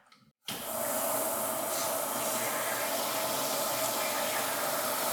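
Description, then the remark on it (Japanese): A shower spray abruptly turns on after a brief quiet moment and runs steadily and loudly, pouring hot water into a container with a continuous hissing rush, to thin and dissolve a stiff gel. “なので、ちょっと早速シャワーをね、バーって出して、お湯で溶いていきます。”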